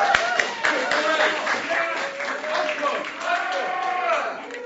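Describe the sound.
A round of applause: a steady patter of many hands clapping, mixed with cheering and whooping voices, holding fairly loud for several seconds.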